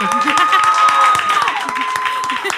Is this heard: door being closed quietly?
no